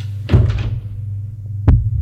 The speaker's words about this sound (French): Il s'assoit. Une porte s'est ouverte.